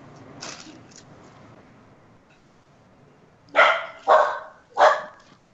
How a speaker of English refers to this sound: The dog agrees. Enough out of you, boy. Every time I take my dog for a walk, everybody loves this fucking dog, man. A little tiny golden doodle. I wanted a big dog, but I'm happy with what I got.